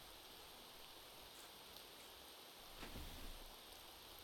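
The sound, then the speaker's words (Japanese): Steady rain falls with a soft, continuous hiss, a few drops ticking and a brief heavier patter toward the end. No voices are present. “でもさ、お兄ちゃん、今日は傘しまってくれないかな。隣座って一緒に雨に打たれてよ、お兄ちゃん。”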